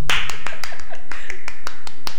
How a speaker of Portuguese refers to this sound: Palmas pra fala.